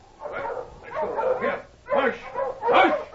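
A pack of hungry sled dogs, waiting to be fed, barks and yips excitedly in a quick series of loud, overlapping bursts, with a few higher whimpering yips mixed in.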